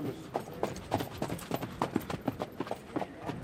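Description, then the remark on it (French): The hooves of Everest de Blary, a black male horse born on 19 April, shown as number 133 in a horse presentation, clip-clop in a steady, even rhythm on hard ground, about a dozen crisp strikes at walking pace, with no one speaking. “Everest de Blary, un mal noir ici, né le 19 avril par Caro.”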